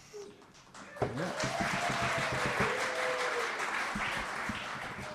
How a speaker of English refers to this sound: Every time you applaud, we take about a dollar off his salary, so applaud again if you would.